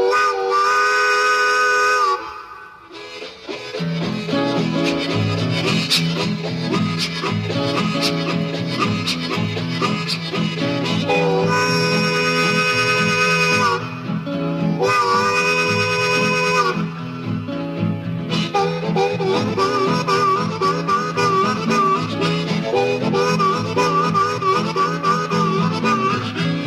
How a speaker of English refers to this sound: Now, in 1946, they released a pretty neat little song.